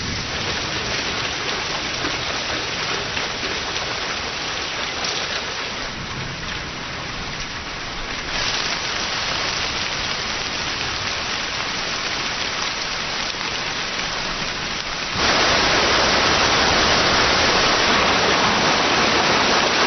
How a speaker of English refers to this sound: The gorges are so deep and narrow that the moist, warm air is driven right up into the north of Yunnan. The result is rain in torrents.